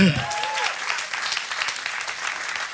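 An audience claps steadily, a dense wash of many hands filling the whole clip at even loudness, with a brief voice tail at the very start.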